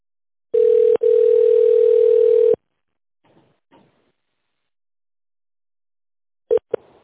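A steady, mid-pitched telephone line tone on a call to a company while waiting for the operator to answer, humming for about two seconds with a brief break, followed by faint clicks and two short beeps of the same pitch near the end.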